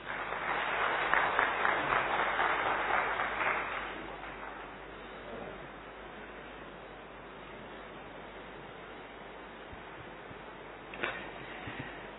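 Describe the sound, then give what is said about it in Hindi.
An audience breaks into loud, dense clapping for about four seconds, then the applause fades out, leaving a soft steady hiss and one brief sharp knock near the end. “भारत सरकार ने तालियों में अभी तक टैक्स नहीं लगाया है।”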